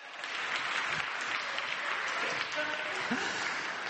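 A crowd applauds steadily, a dense wash of many hands clapping at once that holds an even level for several seconds without fading.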